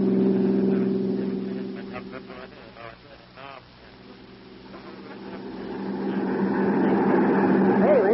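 A car accelerates on a road running alongside railway tracks: a steady, buzzing engine drone holds throughout, its tone climbing and growing louder toward the end as it speeds up; brief vocal sounds break in near the middle.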